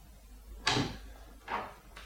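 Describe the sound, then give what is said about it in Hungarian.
A door being locked, heard as a sharp clack followed by two softer rattling bursts about a second apart, with no one speaking. “Bezártad az ajtót.”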